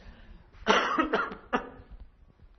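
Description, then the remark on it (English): A preacher interrupts a sermon with a loud, harsh cough, followed by a second shorter cough about a second later, then quiet. “Excuse me, I'm just going to need to cough quite loudly.”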